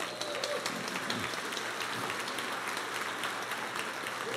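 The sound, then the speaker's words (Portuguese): A church audience applauds steadily to honour a pastor's 30 years of ministry, a dense wash of many hands clapping at once, sustained throughout with no pauses and no voices rising above it. “Os irmãos estão aplausivos hoje.”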